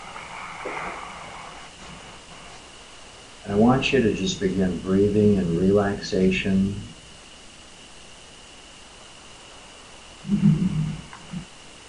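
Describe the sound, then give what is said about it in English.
A steady, soft wash of ocean waves hisses underneath the whole recording, with a calm voice slowly guiding a relaxation exercise over it in the middle and again briefly near the end. “Allow your eyes to close comfortably, listening to the sound of the ocean.”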